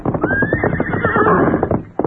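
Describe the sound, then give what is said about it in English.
Silver, the Lone Ranger's horse, gallops riderless into the camp, hooves pounding rapidly beneath a loud, drawn-out neigh that rises and holds for over a second before breaking off, with no voices. “Me hear horse come plenty fast.”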